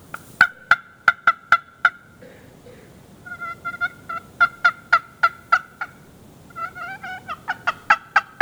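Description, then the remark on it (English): A turkey hunting call imitates a turkey hen to get a tom interested, giving loud, raspy yelps in quick rhythmic runs of five or six notes with brief pauses between bursts, clear with no talking. “So the next one we have are turkey calls.”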